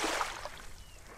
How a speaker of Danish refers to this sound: Jeg tager færgen derud.